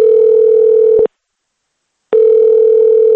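A telephone ringback tone purrs steadily for about a second, goes silent for a second, then starts again. It is the repeating ring of an outgoing call from Radio Azadi to a family in Moscow, made to offer Nowruz greetings, waiting to be answered.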